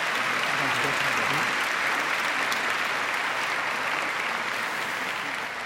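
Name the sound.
audience applauding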